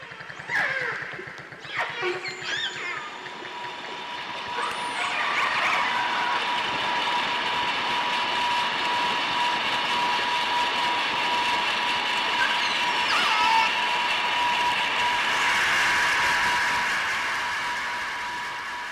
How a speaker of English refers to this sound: Just listen to this audio of how noise from a passing boat totally drowns out dolphin communication.